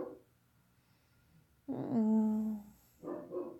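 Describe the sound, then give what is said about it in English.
An upset dog whimpers and whines in a drawn-out, strained cry, then lets out a shorter burst of yelping noise, fairly loud with quiet gaps around it. “Oh, see, even the doggy's upset.”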